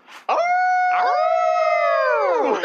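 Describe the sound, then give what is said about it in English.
Human voices mimic a dog's howl in one loud, sustained, wavering cry lasting over two seconds, with a second voice joining partway through and the pitch sagging at the end. “Hashtag howl noise.”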